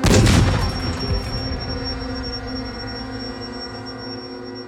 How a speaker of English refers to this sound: And then, another explosion.